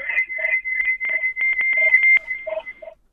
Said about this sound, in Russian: Азбука Морзе, там через нашу программу сообщение.